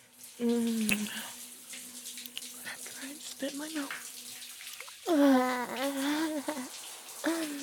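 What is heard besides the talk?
water running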